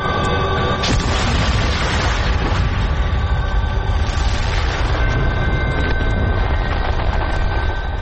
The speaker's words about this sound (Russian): И в этот момент ударил взрыв.